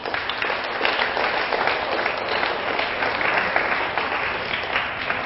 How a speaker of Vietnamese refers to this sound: Nếu các con thấy đề nghị đó là được thì hãy cho một tràng vỗ tay thật lớn nào.